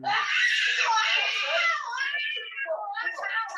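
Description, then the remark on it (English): A woman screams in pain, loud, one long high strained wail that breaks into shorter, ragged cries toward the end. “That, I mean, that's a real scream.”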